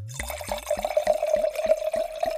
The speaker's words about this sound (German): Und jetzt gieße ich das auf mit Gut Edel und du hast gesagt, wie viel CL? Sag einfach Stopp.